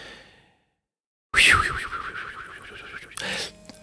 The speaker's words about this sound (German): Oh, Wecker. Es ist 6 Uhr. Ich muss jetzt anfangen zu arbeiten.